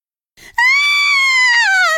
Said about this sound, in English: Some of the water fell on the Wicked Witch, and she screamed a loud, terrible scream.